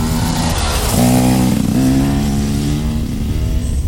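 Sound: motorcycle engine revving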